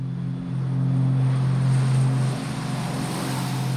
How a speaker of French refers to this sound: Le 4 avril, enfin, son avion décolle.